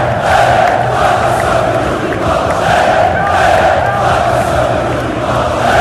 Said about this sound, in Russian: После матча с «Зенитом» Юрий Семин подошел к трибунам и исполнил вместе с ними заряд «Эй-эй», только Семин Юрий Палыч, и энергично так отбивал ритм в воздухе, как это было, сейчас можем даже послушать.